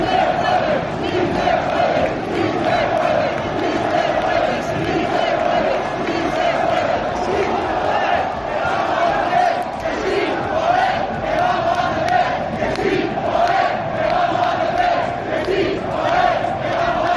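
football fans chanting

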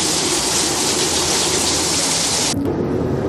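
heavy rain falling

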